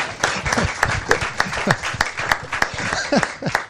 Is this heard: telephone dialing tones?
no